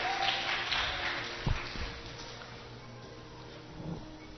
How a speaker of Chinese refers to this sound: 好，我们给他掌声鼓励。哇，好棒哦！